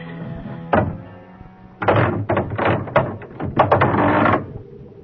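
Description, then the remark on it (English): Someone knocks on a door late at night: a single thud, a short pause, then a burst of loud, heavy, irregular pounding, with a low hum underneath and no voices. “Who knocks so late in the night?”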